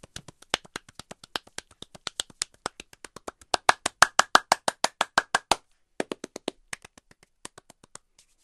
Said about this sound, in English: But moving on down, in terms of the hands, you get some kind of brushing sounds. And then you can start just kind of manipulating the hands in different kind of clapping positions.